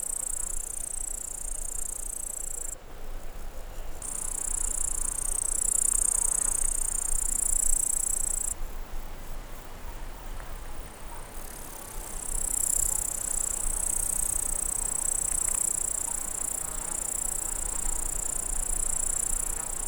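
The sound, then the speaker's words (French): A dense, shimmering chorus of grasshoppers and crickets buzzes continuously in high pitch, swelling and pulsing in waves across an open meadow at nearly 1600 metres altitude, with no voices present. “Et là, à près de 1600 mètres d'altitude, la prairie électrisée par le son des sauterelles criquées.”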